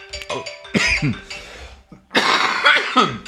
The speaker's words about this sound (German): ich muss kurz husten. Sorry,